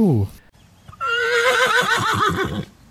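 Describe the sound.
A loud horse whinny rings out for about a second and a half, its pitch quavering and falling, right after a brief fragment of a voice.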